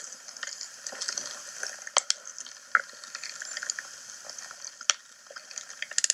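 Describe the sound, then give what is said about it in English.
A snail named Summer eating: a steady, faint wet crackling and fizzing, broken by a handful of sharper crisp clicks and rasps at irregular moments, with no voices. “It was Summer the Snail eating.”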